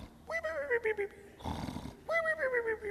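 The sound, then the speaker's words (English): A voice imitates loud, cartoonish snoring: a drawn-out rumbling tone sliding downward, a harsh noisy snort of breath, then another long rumbling snore. “Some people snore like that, at least in the cartoons.”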